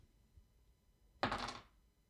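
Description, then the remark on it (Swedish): A die rattles and tumbles across a hard surface in one short clatter lasting under half a second, then settles, with quiet before and after. “Slå med en tärning.”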